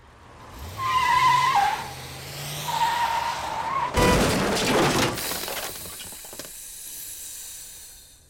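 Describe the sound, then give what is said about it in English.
A car's tires squeal in a drawn-out skid, then a sudden loud crash as the car hits a pillar, with crunching, shattering debris that rattles and fades away. “Well, she couldn't have taken out that pillar better or the car better, could she?”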